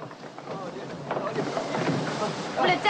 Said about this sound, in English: She opens the cabin door and helps him out onto the deck, where the rain's pouring in sheets.